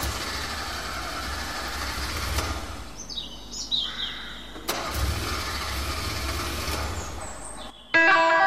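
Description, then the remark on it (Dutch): A bus engine turns over and settles into a steady rumble as the bus is moved to be parked behind an auberge, with a few clunks along the way; birds chirp faintly in the background and a brighter twittering rises at the end. “of je de bus even daar wil zetten, achter de auberge.”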